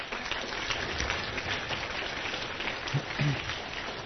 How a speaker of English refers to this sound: Help me give Dad a round of applause.